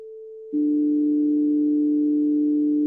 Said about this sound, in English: And just to compare that, the fifth that we should have had instead would have been. And here is what's called the wolf fifth.